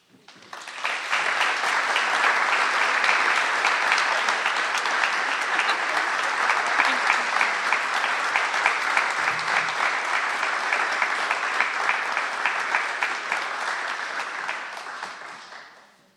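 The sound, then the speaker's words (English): Sustained applause from a large audience, dense and steady clapping rising quickly and holding at full loudness for about fifteen seconds before fading out at the end. “Let's give them all collectively one more round of applause.”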